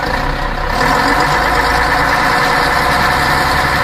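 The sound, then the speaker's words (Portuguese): A large bus engine idles steadily, a loud, continuous rumble with a low vibrating drone that holds constant throughout, with no voices. “Te apressa que o motor do ônibus já está roncando.”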